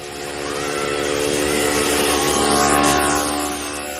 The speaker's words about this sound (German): Ein Mofa. Wie ein Fingernagel kratzt es über die Tafel unserer friedliebenden Seele.